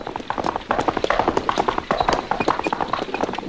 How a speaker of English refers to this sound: I hear horses.